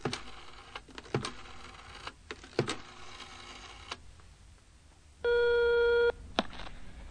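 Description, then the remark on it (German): A run of sharp clicks and clacks from a telephone being dialed for a long-distance call from Munich, followed by a steady electronic ring tone lasting about a second, then a final click as the line picks up. “Darf ich mal telefonieren?”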